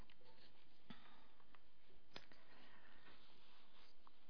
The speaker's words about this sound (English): Two pages turned over there. Rushing through.